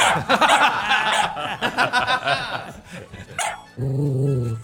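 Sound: dog growling and barking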